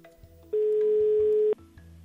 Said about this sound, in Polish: Zobaczymy, czy się uda nam połączyć przede wszystkim. Jest sygnał.